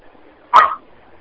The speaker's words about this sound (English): Well, we hear her dog speaking. I hear the dog in the back.